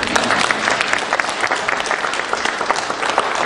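Steady applause from a crowd, dense overlapping claps forming a continuous bright patter at an even loudness for the whole stretch, with no voices standing out.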